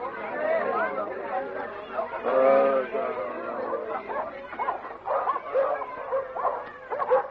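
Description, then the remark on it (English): Several dogs squabble over a piece of wild pig on a road, yipping, growling and whimpering in a continuous tangle, with people chattering loudly over the commotion. “They've brought a piece of wild pig, and when they saw it on the road, all the dogs are eating it.”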